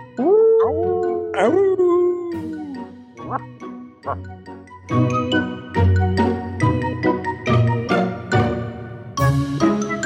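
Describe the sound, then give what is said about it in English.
Several people howl like dogs in a big awoo to the listeners, a few loud, overlapping drawn-out awoos that rise and fall, then upbeat music with steady percussion takes over for the rest. “Let's give a big old awoo to the listeners.”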